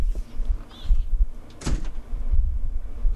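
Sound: door being slammed shut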